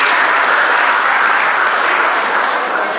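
Steady, loud applause from an audience, a dense wash of many hands clapping continuously for the full three seconds with no voices standing out.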